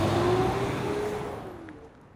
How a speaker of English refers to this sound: you could have gotten us smeared by that car.